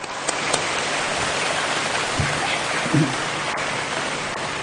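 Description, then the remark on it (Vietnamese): A round of applause, a dense, steady wash of many hands clapping at an even level for about five seconds, with no voices over it. “Xin cho ông cụ một tràng pháo tay.”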